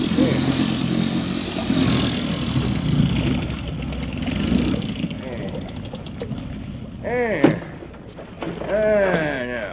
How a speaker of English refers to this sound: All right, Lee, swing around and cut the engine.